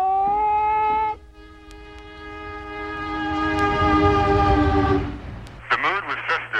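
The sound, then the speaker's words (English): The horn of the Amtrak Freedom Train sounds loud, a long sustained chord over a swelling rumble as the passenger train pulls away from the Oakland, California terminal carrying some 75 passengers to the National March on Washington, followed by a brief burst of voices at the end. “Amtrak Freedom Train as it left the Oakland, California terminal, carrying some 75 lesbians and gay men to Sunday's National March on Washington for lesbian and gay rights.”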